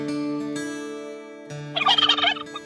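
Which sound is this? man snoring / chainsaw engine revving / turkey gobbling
turkey gobbling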